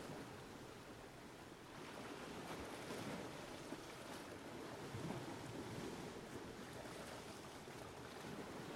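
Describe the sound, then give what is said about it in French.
Steady wash of sea waves rolling onto a deserted beach where small red and blue boats rock on the waves, with gusting wind carrying salty spray and buffeting the microphone throughout. The surf roars continuously at a fairly loud level, and no one is speaking. “De petites barques à tête de monstres rouges et bleus se bercent au gré des vagues. Le vent apporte les embruns salés.”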